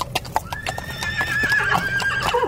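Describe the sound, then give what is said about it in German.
A horse whinnies in a long, wavering neigh, preceded by a few sharp clip-clops of hooves, fairly loud with a low rumble of background noise. “hatte sich um die Pferde der Soldaten zu kümmern”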